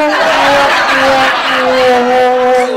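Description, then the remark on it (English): A car with a broken steering column skids out of control, its tires letting out a loud, sustained screech over rough engine and road noise for nearly three seconds, with no voices. “That steering column was kaput. I knew that car would go out of control.”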